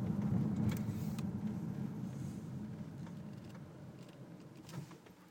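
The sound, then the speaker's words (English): A car engine hums low and steady from inside the vehicle, then winds down and grows quieter as the car's start-stop system switches the engine off while stopped at a junction or traffic lights, with a brief soft knock near the end and no one talking. “You just stop. Engine off.”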